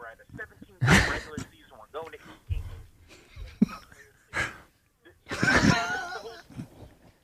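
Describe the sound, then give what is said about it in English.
A man on WIP radio lets out a loud, drawn-out yawn mid-show at the first caller of the morning, breathy and groaning, with a few shorter gasping breaths and vocal sounds around it. “Can we hear … getting yawning one more time?”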